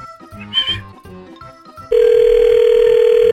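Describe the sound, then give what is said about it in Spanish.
Short, scattered phone tones give way to a loud, steady electronic ringback tone on an outgoing call to a man who sells chicks. A single unbroken mid-pitched buzz lasts over a second before cutting off. “Bueno, vamos a marcarle este.”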